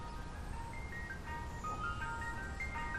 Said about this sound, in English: An ice cream truck approaches an intersection. It stops, then continues across the road.